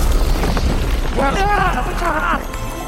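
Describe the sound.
A loud, roaring blast from Bloom's fire spell in Winx Club, sending Ogron into a huge hole in the ground, booms and rumbles continuously for a few seconds, heavy in the low end, while a voice cries out over it partway through.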